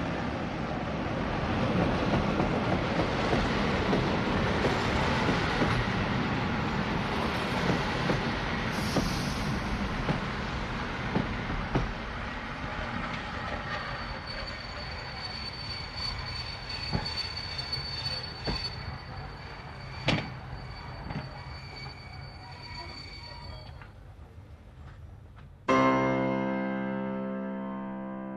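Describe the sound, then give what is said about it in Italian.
The express train Orlando Furioso rumbles and clatters as it brakes sharply on entering the station after the alarm signal is pulled, a thin metallic squeal rising over the roar with a few sharp clunks, before a sudden loud, buzzing horn-like tone cuts in at the end. “Invece, inaspettatamente, l'espresso Orlando Furioso frena bruscamente all'ingresso della stazione.”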